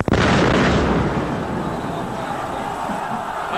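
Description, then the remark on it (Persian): A bomb explosion at a Friday prayer gathering on 24 Esfand 1363 (Iranian calendar) goes off abruptly and loud, then gives way to a sustained, roaring wash of noise that slowly fades, with faint crowd commotion beneath it. “جالبه که توی یکی از نماز جمعه های دهه 60 هم همین آقای معظم رهبری با مقوله انفجار پیوند خاصی داشته.”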